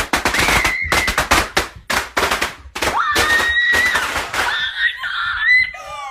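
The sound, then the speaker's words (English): A rapid, loud string of firecrackers, lit with a lighter, pops and bangs indoors, the sharp bursts tumbling over each other before giving way to a sister's high-pitched screams. “Nothing better than inside firecrackers.”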